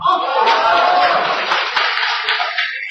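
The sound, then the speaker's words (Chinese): An audience applauds loudly and steadily for about three seconds, a dense wash of clapping with a few cheers and shouts mixed in, and no speech over it. “这个咱这个您老几位，您快别鼓掌了，撒谎别瞒当乡人。”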